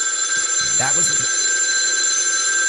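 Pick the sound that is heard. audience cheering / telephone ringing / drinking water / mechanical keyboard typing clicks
telephone ringing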